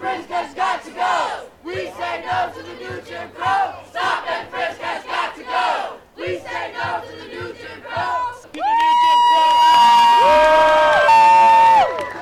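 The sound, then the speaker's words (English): A protest crowd of at least 300 people, protesting stop and frisk in New York City as protesters are arrested, shouts in loud, rhythmic bursts like a chant, then breaks into a sustained, high-pitched roar of yelling and cheering that holds for the last few seconds. “Crowd here, at least 300.”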